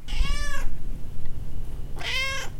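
A cat meows twice, two drawn-out, wavering cries separated by a brief pause, fairly loud over a low background rumble.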